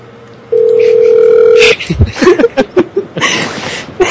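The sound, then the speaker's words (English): A loud, steady telephone dial tone drones for about a second on a call put through to a room at a Motel 6 in Middleburg Heights, then cuts off into a burst of short, choppy chuckles and vocal noises. “I think their phone's off the hook.”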